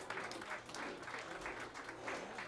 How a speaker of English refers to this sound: Wait, were y'all clapping? I couldn't hardly hear the clapping. I'm just kidding. It's so quiet in here.